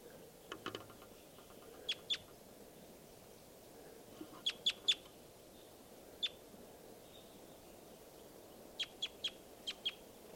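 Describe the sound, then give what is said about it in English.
Sharp, high-pitched bird calls ring out in short clusters of two to four notes, repeated irregularly against a steady low outdoor hum, distinct. “It's 305 tooping and 387 calling.”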